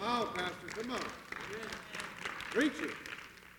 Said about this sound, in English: And by the way, church, we should applaud those saints. This is not okay.